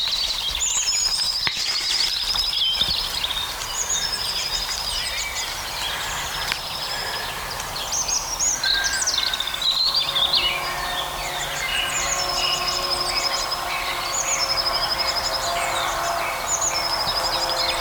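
Several European robins sing over one another, trading high, warbling and trilling phrases in overlapping bursts that carry steadily throughout, with no one speaking.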